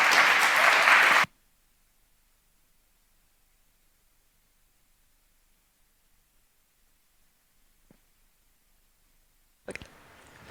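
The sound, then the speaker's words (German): Loud audience applause welcoming a speaker before a talk about learnings from the Prototype Fund fills the first second or so, then cuts off abruptly into long near-silence, with a faint click midway and a brief burst of noisy sound returning at the very end. “Ja, dann einen herzlichen Applaus und viel Spaß beim Vortrag.”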